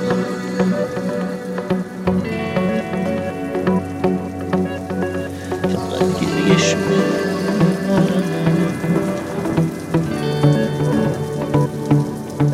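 Steady rain patters continuously throughout, blended with a soft sustained musical backdrop of held tones and gentle melody, with no one speaking.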